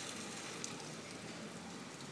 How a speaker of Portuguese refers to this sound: Olha só a chuva, que beleza, hein? Faltava assim um barulhinho do meio do mato, né?